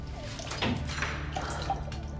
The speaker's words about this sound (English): Another soldier sets water before her and leaves as well. Susanna wets a cloth in the bucket of water.